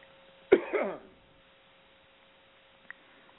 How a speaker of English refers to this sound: So let me clear my throat and I'll just begin.